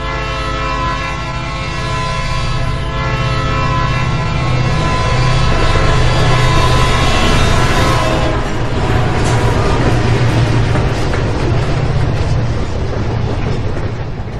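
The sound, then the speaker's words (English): A train thunders past, its horn blaring a sustained, steady chord over the heavy rumble and rush of the cars, swelling louder midway through. “Yeah, to get a good train sound you have a good sound recordist when you capture a good train sound.”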